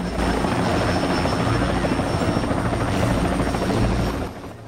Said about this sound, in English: He sees the FBI chopper and his face falls. He retreats back into the train as the other passengers get off. The chopper lands.